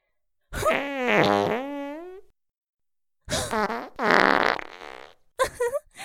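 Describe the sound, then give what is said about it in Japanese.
Three loud farts in a row: a long, buzzing, wavering blast that trails off, then a second drawn-out rumbling one, and a short sputtering burst at the end. “おならを嗅がされてノックダウン。”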